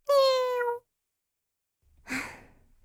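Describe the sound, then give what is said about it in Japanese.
A single short, clear cat meow, followed after a brief pause by a soft, breathy sigh-like exhale. “なのでお猫様は蓮華様にさりげなく近づき、その病みつきになる感触の下で蓮華様のおみ足をペロリンと舐めてください。”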